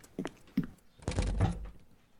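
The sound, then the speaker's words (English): Someone rushes to a front door and opens it: a couple of soft knocks from the latch, then a fuller rattling clunk as it swings, quiet overall, with no talking. “I rushed to the front door and opened it just as she was getting Oliver's cage from the front seat”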